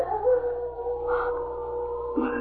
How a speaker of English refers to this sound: That's a wolf.